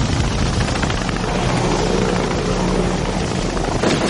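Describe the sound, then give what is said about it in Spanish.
Loud, continuous Black Hawk helicopter rotor noise, a dense steady roar with a rapid chopping pulse, unbroken for the whole stretch with no voices. “El derribo de un helicóptero Black Hawk y la posterior operación de rescate se habían saldado con numerosas bajas estadounidenses.”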